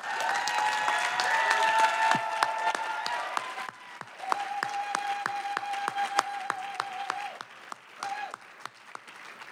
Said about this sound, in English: So we've got to end right here, but please give your round of applause. Also for yourselves, we all know that you're doing Palestine solidarity work in your cities.